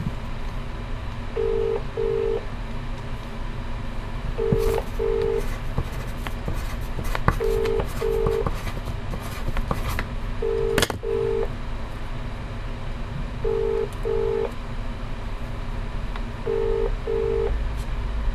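Telephone keypad dialing tones sound in short paired beeps, repeating evenly about every three seconds over a steady low hum, clear and moderately loud with no voices.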